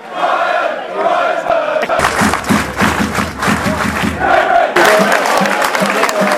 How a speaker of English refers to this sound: Rapturous applause in the Newmarket Road End to appreciate an outstanding piece of goalkeeping by Chris Dunn, diving to his right to keep out a long-range volley that was heading for the top corner.